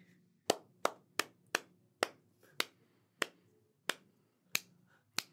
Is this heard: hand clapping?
yes